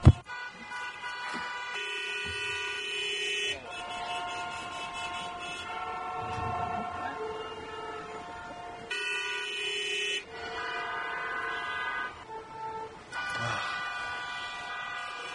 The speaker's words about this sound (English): And now for our next speaker, keep on honking.